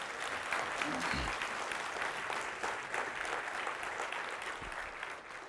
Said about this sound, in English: If it blessed you in the house, the temple today, would you let it be known by giving the Lord a clap offering?